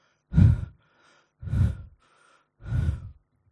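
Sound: imitated panting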